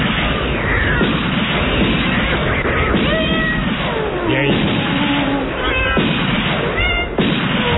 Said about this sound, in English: Oh, now it's getting worse. The cat fight's getting worse. Don't go near that.